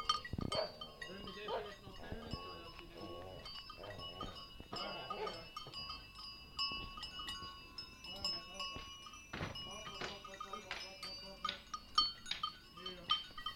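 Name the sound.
dairy goats bleating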